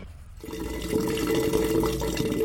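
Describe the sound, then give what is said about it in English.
Wastewater rushes steadily through a farmer's grey water sewage collection system in the Arusha region of Tanzania after a brief quiet start, a continuous gushing flow with a faint hum beneath it. No voices. “It is this sewage collection system that changed the history of this young farmer.”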